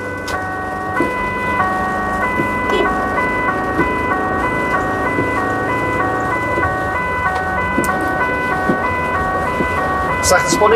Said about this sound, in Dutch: Heb je zwaailichten aangedaan, sirenes staan aan. Ja. Het is gas geven.